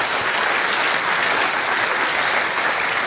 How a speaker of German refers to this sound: Sieht man am Applaus, sieht man an den Herzchen und den Applaus auch im Venueless.